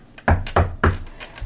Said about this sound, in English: I knock. All right. So you knock.